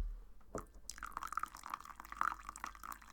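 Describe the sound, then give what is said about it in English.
After a brief knock, coffee pours steadily into a cup for a few seconds, a continuous trickle with gurgling, rising bubbly tones and no talking. “Pouring coffee is like ASMR, right?”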